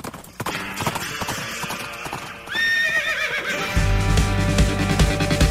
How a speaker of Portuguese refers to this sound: Cavalão tá chegando. Cavalão tá doidão. Cavalão tá doidão.